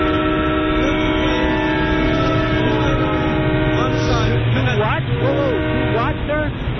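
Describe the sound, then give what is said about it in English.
Loud, dense train station noise heard over a phone call, with a steady, drawn-out horn-like tone sounding throughout, while indistinct voices murmur underneath the rumble. “Okay, I'm just having a tough time hearing you. I'm at the train station.”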